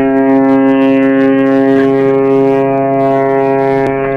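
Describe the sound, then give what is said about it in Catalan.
The horn of a ship bound for Barcelona sounds as it stops at Montevideo. It gives one long, loud, steady blast that holds its deep, brassy tone for the whole few seconds, with no voices. “El vaixell que em duia a Barcelona s'aturà a Montevideo.”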